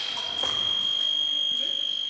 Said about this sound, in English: When Vincenti touches Speer with her épée, she earns a point and a buzzer sounds